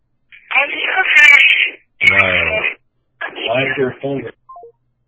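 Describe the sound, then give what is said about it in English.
A voice imitates a ringing telephone in three loud, buzzy bursts of about a second each, separated by short pauses, with a few faint high chirps at the end. “Why is there a phone ringing in the background?”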